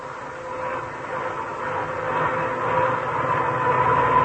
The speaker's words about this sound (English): Now, when you hear a humming like that, you know that car has worn-out gears. And probably they're worn because the owner forgot to change to wetter gear lubricants when cold weather came.